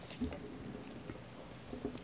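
Rain falls steadily on a roof, a soft, continuous patter of scattered taps over a diffuse hiss, heard quietly with no clear talking.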